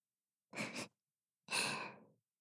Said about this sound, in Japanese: 案の定、体ビクンってなりましたね。熱い吐息を耳元に吹きかけるたび、背筋がビクンビクンってなってます。